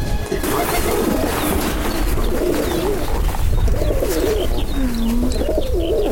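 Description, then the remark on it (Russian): Several pigeons coo continuously at a large dovecote above a shed roof, their low, throaty, rolling calls overlapping with no pause, over a steady bed of rustling and scuffling noise from the flock. “Теперь мы оказываемся на площадке, где над крышей сарайчика возвышается большая голубятня.”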